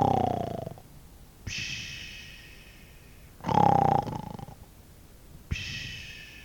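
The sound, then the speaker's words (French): A man snoring in his sleep while lying on grass among ruins: two rough, rumbling inhales, each followed by a long airy whistling exhale, in a slow steady rhythm with no talking. “Il s'allongea sur les herbes qui foisonnaient dans les décombres et ne tarda pas à ronfler.”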